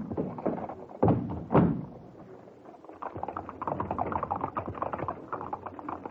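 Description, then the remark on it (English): Two heavy thuds, like a carriage door shutting, then a horse-drawn four-wheeler cab's hooves start up in a steady, brisk clip-clop that carries on to the end, with wheels rumbling underneath. “We'll take a four-wheeler. Cab!”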